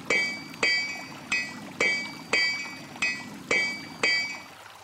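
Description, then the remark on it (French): A blacksmith hammers metal at a forge: seven steady, ringing clangs about two-thirds of a second apart, each leaving a bright metallic tone that fades before the next strike. “Une forge permettait de réparer les calèches et de ferrer les chevaux.”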